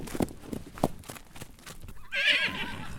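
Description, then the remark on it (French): A few soft hoof thuds lead into a young horse's high, quavering whinny, fairly loud, trembling for about a second at the end. No one speaks. “Si les animaux ici semblent ainsi avoir nos soucis d'homme, c'est à l'inverse un jeune cheval qui me parlera de mes soucis à moi en m'apprenant son langage.”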